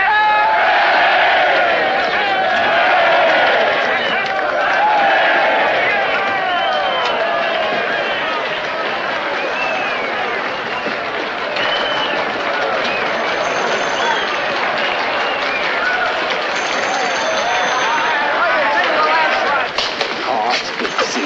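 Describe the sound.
A large crowd gives three rounds of cheers as a man comes through the door, cheering and shouting loudly and continuously, many voices overlapping with whoops and yells, mixed with clapping and a dense roar that hardly dips for the whole stretch.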